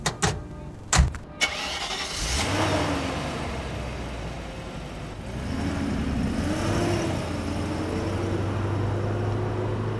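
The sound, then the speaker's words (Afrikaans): A car engine cranks over with a couple of sharp clicks and bursts, then catches and settles into a steady idle that hums on with a slight rev midway, as the car is started to drive to a clinic. “Ons neem sommer my motor. Ek sal bestuur, né?”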